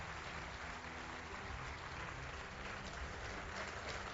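An audience claps steadily for a few seconds, a dense, even wash of many hands with no voices rising above it, applauding a public road works project in the Dominican Republic.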